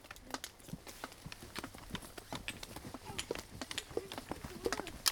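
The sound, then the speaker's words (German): Quiet footsteps tap along at a steady walking pace, a run of soft, hard-soled clicks that stays low throughout, with no one speaking. “Er hört ganz leise Schritte.”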